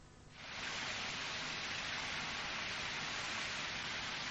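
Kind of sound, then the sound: household object, water leaking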